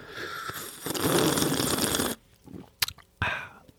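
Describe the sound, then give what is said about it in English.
A loud, close-up slurp of hot, freshly brewed Tanzanian coffee lasting about two seconds, followed by a few quiet mouth clicks and a brief breathy exhale. “Because they say the louder you slurp, the better off it is for the taste.”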